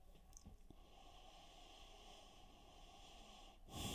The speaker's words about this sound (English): I'm breathing even deeper now.